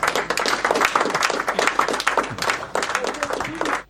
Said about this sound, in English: Now, there's a golf clap. Yeah, I left the claps in there for that.